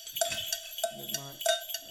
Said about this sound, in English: Hey, if you can see what I got. Got them bells.